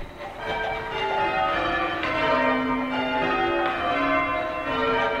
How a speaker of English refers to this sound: A bunch of people stand around in a circle, and each one holds a rope that connects to a bell up in the tower. They ring their bells one after another, making a waterfall of sound.